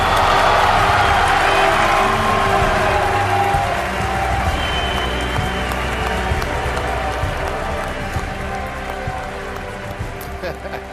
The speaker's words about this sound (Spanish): les reto a adivinar las noticias de la semana con los aplausos que han generado